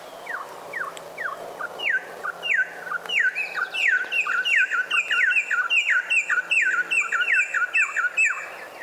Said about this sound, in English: Yeah, isn't that a beautiful song? Yeah. It is. That's a Venezuelan troupial, and the male begins, and the female is then joining in.